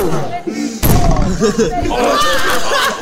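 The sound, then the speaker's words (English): A single sharp, heavy slam as a hand smacks down hard on a tabletop at the end of a contest, loud amid a busy backdrop of chanting, overlapping voices and crowd chatter. “Bam! I hit the”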